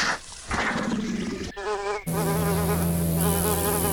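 Bees buzz loudly in a game as more bees fly in, a droning, wavering hum that shifts in pitch and grows denser and steadier partway through, with no voices present.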